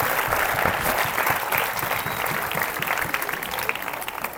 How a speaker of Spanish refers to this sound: Dale el aplauso si se lo vas a dar al Señor, por favor, esta noche.